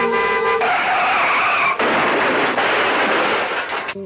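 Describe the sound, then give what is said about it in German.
A car's tires screech hard under braking, then a loud, noisy crash follows, with a harsh sustained clatter filling the rest of the moment. “Das Auto bremst und man hört einen Unfall.”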